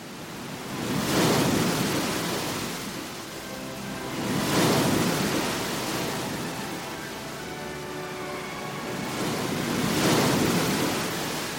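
Rough, stormy sea water roars continuously around the Symplegades clashing rocks as three big waves crash in slow succession, each surge swelling into a broad hiss of spray before easing back. Loud, with no voices.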